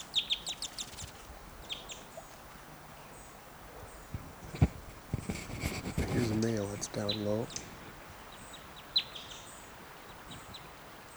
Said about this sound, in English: And I still have a female in the net. Big fight there by some birds.